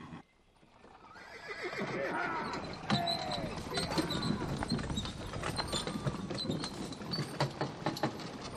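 A horse whinnies, then a horse-drawn cart rolls off, hooves clip-clopping in a steady rhythm over creaking, rattling wheels, moderately loud throughout.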